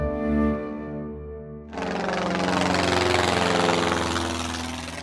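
A steady, droning airplane engine, the airplane the Sandmännchen arrives in on the children's TV programme, hums at first, then about halfway through it surges into a loud, broad roar as it revs up, holding that roar to the end. No voices.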